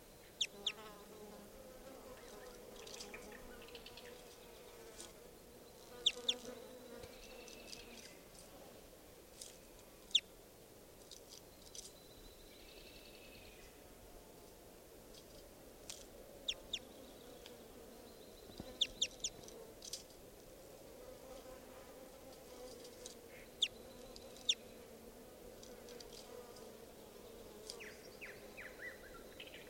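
Faint, brief bird chirps come and go over a steady droning hum of buzzing insects, with scattered sharp clicks throughout a quiet outdoor recording.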